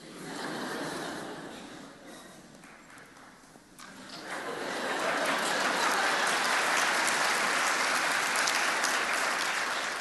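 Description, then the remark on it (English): An audience applauds in a dense, steady patter of many hands, dipping briefly before swelling louder and fuller for the second half. No voices are heard over the clapping. “I think the clap means an encore.”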